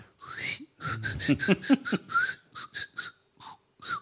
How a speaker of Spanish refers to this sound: Bueno, a poco de llegar a Tracoda, se escuchaban los chiflidos de los habitantes.